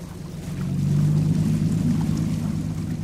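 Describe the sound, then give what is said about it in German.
A boat engine drones steadily as the boat is steered out onto the Adelaide River, its low rumble rising after a moment and holding loud and even, with faint water wash beneath and no voices. “Pat steuert sein Boot auf den Fluss.”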